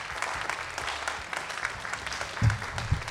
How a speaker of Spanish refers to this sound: pido un fuerte aplauso para el señor. Él tiene pánico porque le juré que no iba a hacer esto.